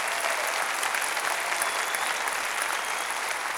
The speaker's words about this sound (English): Let's give them a big round of applause and thank them for being here today.